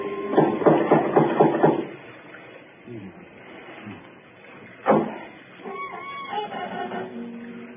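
door knocker knocking

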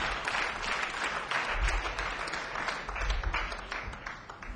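audience clapping

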